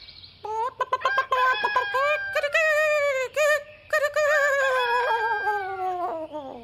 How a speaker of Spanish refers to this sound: Cantó el gallo con todas sus fuerzas.